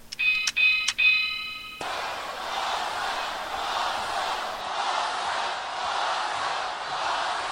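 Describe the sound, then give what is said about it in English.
A bright, doorbell-like bell rings out in a few quick ding-dong strikes, then cuts off as a steady, noisy crowd-like roar takes over for the rest. “Ring the damn bell!”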